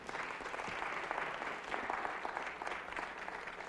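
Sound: audience applause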